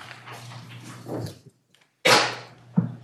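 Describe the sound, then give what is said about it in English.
A single sudden, loud sneeze bursts out in a courtroom over a steady low hum, followed moments later by a brief dull knock. “Bless you.”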